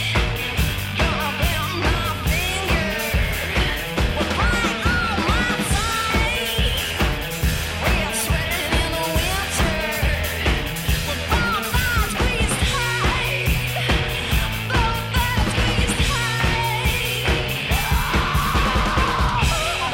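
A loud, driving garage rock song with crashing drums and distorted guitar, a raw yelled vocal riding over the dense, relentless beat for the whole stretch.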